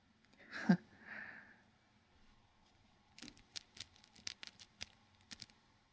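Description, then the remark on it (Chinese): The zipper of a leather hood is tugged open with a quick rasp, then drawn slowly in a run of sharp, separate clicks, fairly crisp, with no one speaking. “小马低沉一笑，撕拉一声拉开了皮头套的拉链。”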